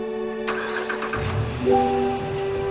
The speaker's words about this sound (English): Nick drives away as Kylie watches.